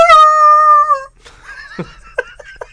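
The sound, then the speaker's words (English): A voice imitates the groan heard in a film scene as the scene pans away after a character shouts 'Artax!': a loud, sustained, high-pitched wailing tone lasting about a second, then quieter broken vocal sounds with a few short rising squeaks. “And then you just hear this groan as the scene changes.”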